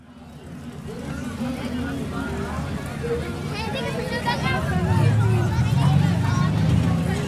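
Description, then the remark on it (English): A busy outdoor crowd murmurs steadily in Cars Land at the Cozy Cone Motel while the Mater and Lightning McQueen character cars rumble, growing a little louder toward the end as they leave through the chatter. “I'm in Cars Land and here at the Cozy Cone Motel, and Mater and Lightning McQueen are leaving.”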